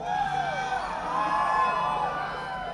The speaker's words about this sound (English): My God, this is really sort of an idyllic festival crowd.